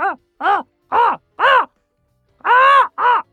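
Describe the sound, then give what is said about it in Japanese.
A voice imitates a crow, letting out six loud, hoarse caws in quick succession, with a short pause before the last two, which are longer and harsher. “カラスでしょ、カラス。”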